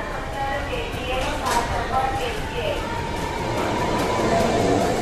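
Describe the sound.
Busy train station ambience: a steady, echoing wash of crowd murmur and low rumble, with indistinct voices and announcements blurred into the background throughout.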